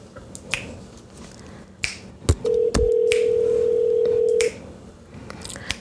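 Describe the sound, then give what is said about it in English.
An outgoing phone call ringing: a single steady ringback tone lasting about two seconds, preceded by a few sharp clicks and taps, with no voices. “I'm gonna cut him if he don't answer the phone.”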